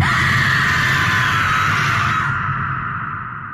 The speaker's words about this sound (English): He can even, he thinks, sort of see through her if he squints hard enough. And as he watches, she opens her mouth and she screams.